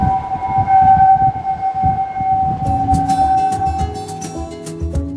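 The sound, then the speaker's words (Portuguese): Wind whistles through the openings of a bridge in Corsica, which act like the bellows of a harmonica, in a steady, sustained tone with faint higher overtones over a low gusty rumble. Other brighter tones join partway through. “Quando o vento passa por aqui, a ponte começa a produzir esse tipo de som.”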